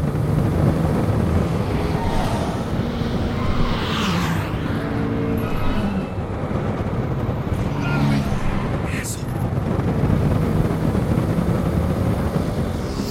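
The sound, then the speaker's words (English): A loud, steady rush of wind streams past without letup, as if travelling at speed, with a low engine-like hum and shifting whooshes running underneath. “And so now you can hear that we're moving faster, as well as the wind as it's rushing by.”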